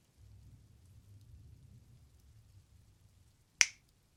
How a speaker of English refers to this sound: Why did you just snap your fingers? You have an idea?